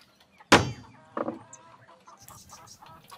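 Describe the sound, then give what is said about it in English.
A chicken lets out a loud, sharp squawk, followed by a shorter cluck and a run of softer, quick clucking murmurs trailing off. “It's one chicken, mate.”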